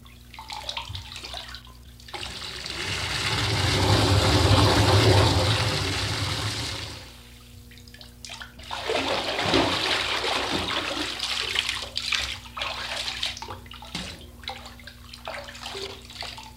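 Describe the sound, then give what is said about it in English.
Water rushes loudly into a bathtub for several seconds, eases briefly, then keeps pouring and gurgling in a steady, splashy stream. No voices are heard. “Then they tried the bathtub.”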